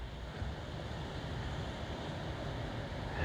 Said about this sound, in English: I'm grateful for the ocean and its waves and the sound and the sand and water and the sun, and clear blue skies.